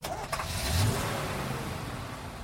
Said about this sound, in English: Bus?